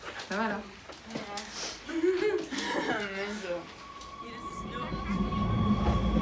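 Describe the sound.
A voice talks at the start, then a steady subway train ride takes over: a continuous low rumble with a thin, sustained electric whine, growing slightly louder as the carriage rolls on.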